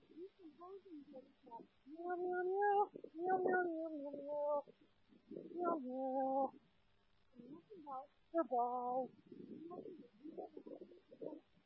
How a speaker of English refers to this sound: What was that? Cat? Yeah. Kitty.